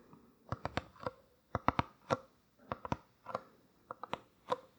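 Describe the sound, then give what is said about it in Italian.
Fingertips tap on a small paper box in quick clusters of two or three soft, dry, hollow knocks, separated by brief pauses, as an ASMR tapping demonstration. The tapping is quiet and there is no talking. “sentire alcuni dei suoni, anche dei più celebri nell'ASMR, iniziando con il tapping, che sarebbe questo suono qua dei polpastrelli su vari oggetti. Io ho scelto una scatoletta di carta.”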